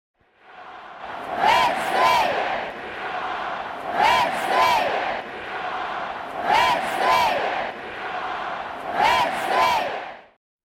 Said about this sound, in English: It's important to delve into the history of this cheer.